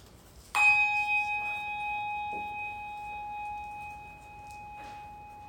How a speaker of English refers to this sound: We'll begin that after we have a little moment of silence with the ringing of a bell.